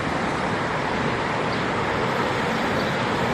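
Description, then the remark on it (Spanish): A steady wash of road traffic, with cars moving slowly and continuously through a busy three-lane roundabout at Lonzas. The engine and tyre rumble stays fairly loud and even throughout, with no talking. “Allí estaba con su scooter en el medio de los coches, en plena rotonda, tres carriles y él en el izquierdo, indiferente ante el evidente peligro que corría y entre los vehículos que iban a poca velocidad para intentar no arrollarlo.”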